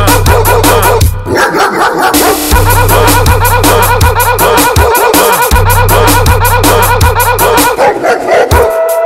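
Dog barks and yelps repeat in quick succession over a loud, steady electronic beat with heavy bass, the barking woven rhythmically into the music throughout.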